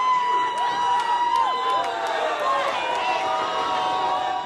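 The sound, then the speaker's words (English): A large crowd in Brazil cheers in joy and relief as the home team beats Colombia in the World Cup quarterfinal, many voices overlapping into a dense, steady roar with some high whoops rising above it, loud throughout the whole stretch. “In Brazil, cheers of joy and relief as the World Cup home team won its quarterfinal against Colombia.”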